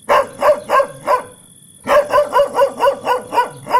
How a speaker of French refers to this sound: Pongo tenta de contacter les autres chiens. Il aboya et aboya.